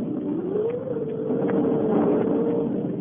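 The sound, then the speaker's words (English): Wind howls steadily for the whole clip on a dark and stormy night, outside the lobby of the Hotel Chafing Dish in the town of Sterno, Pennsylvania: a low whistling tone rising and sagging in pitch over a constant rushing roar, with no voices. “It is a dark and stormy night. Outside, the wind is howling and whistling.”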